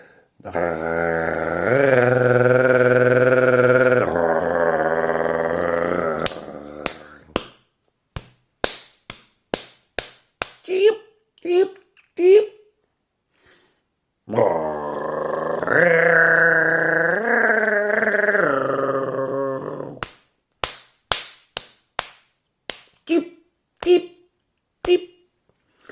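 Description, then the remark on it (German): Sharp, dry wing-claps of a European nightjar, a relatively small bird with narrow wings, during its courtship display, in quick irregular series, each following a long sustained droning tone, with the pattern repeating twice. “Und das macht auch der Ziegenmelker. Und das ist mit seinen schmalen Flügeln für einen relativ kleinen Vogel erstaunlich laut.”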